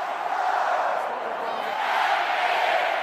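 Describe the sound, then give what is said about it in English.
A huge crowd at a West Virginia University football game in Morgantown, West Virginia roars and cheers continuously, a dense wall of voices that swells slightly toward the end, with no single speaker standing out. “The crowds cheering on West Virginia University's football team can be larger than the most populous city in the state.”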